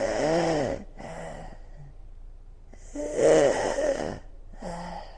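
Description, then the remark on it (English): A voice imitates a sick baby's labored breathing: a few raspy, wheezing, snore-like breaths in a slow rhythm, fairly loud, with no talking. “And I went, and then I hear this little baby breathing like this.”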